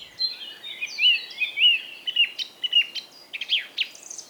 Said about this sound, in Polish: O, no dobrze, skoro mowa o kosie, to mamy i drozda śpiewaka, jego kuzyna.